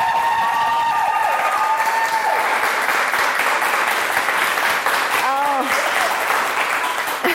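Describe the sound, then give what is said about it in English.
A live studio audience claps and cheers loudly and continuously, with whoops and yells rising over a dense wash of applause that fills the whole stretch. “And I'm actually really excited because we've got a live studio audience. So everybody, clap and yell as loud as you can.”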